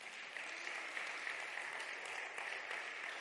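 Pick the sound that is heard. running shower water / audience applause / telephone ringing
audience applause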